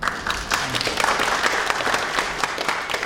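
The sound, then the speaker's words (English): An audience applauds steadily, many hands clapping in a dense, even patter that holds at a moderate level for a few seconds without any talking. “You can clap now if you like.”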